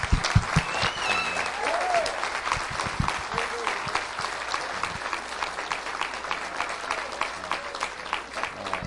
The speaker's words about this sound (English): So please give them one more round of applause for all that they do.